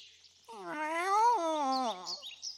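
A single long, drawn-out cat meow that rises and then slowly falls in pitch, clear, over a faint high-pitched background hiss.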